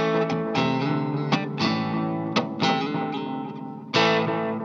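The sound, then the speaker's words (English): Several sharp, clanging crashes from the jostled spring reverb tank of a Moonstruck Reverb Delay pedal, each followed by a splashy, metallic ringing tail over a sustained, distorted guitar tone, irregularly spaced and fairly loud. “That has an actual spring in it. I love it. I know nobody likes it when anybody does this, but...”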